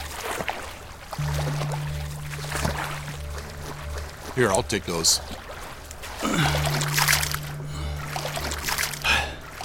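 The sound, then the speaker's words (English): Water sloshes and splashes in bursts as someone wades through it to a waiting plane, holding a coin master and a duffel bag above the surface, over a steady low engine hum, with a voice speaking briefly in between. “I do my best to hold the coin master and duffel bag up above the water's surface.”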